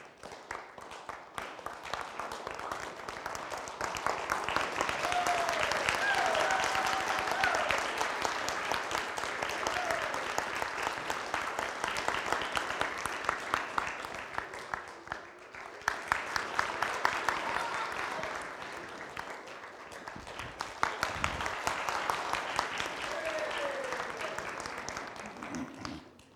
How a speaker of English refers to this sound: And listen for the claps. As they get louder, you're getting closer. Nobody's clapping to you, a long ways away. See if you can find him. Oh, the claps are getting a little louder.